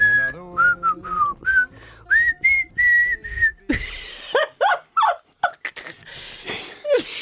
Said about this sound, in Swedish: Jag visslar lika bra som jag sjunger. Du visslar hellre än bra, kan man ja, säga. Ja, det kan man säga.